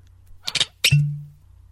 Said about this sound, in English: Now let's pop that bottle of wine, red or white.